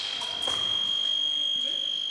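A fencing scoring buzzer in an épée bout sounds as a fencer touches her opponent and earns a point, holding one steady, high-pitched electronic tone for the whole stretch, with faint background clatter beneath it.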